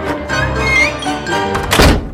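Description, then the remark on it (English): Heavy concert hall doors close with a single loud, dull thunk near the end, over a steady backdrop of sustained musical tones. “The concert hall doors are about to close.”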